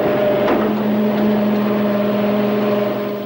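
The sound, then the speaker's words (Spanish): A garbage truck's engine rumbles steadily as it collects bins in front of an apartment block, with a droning hum throughout and a single sharp clank near the start, like a bin being handled. “Al día siguiente, el camión de la basura recoge los cubos frente al bloque de apartamentos donde viven los Kramer.”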